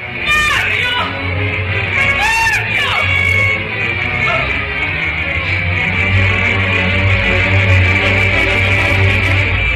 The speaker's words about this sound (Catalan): Tinc la pell de gallina. Aquest crit final és perquè ha saltat del castell.